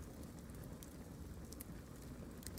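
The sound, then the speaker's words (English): A garden bonfire crackles steadily, a constant soft roar of flames broken by scattered small pops and snaps, fairly quiet and with no voices. “It's a bonfire in a garden.”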